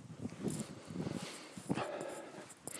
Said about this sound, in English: I can hear a dog bark in the distance.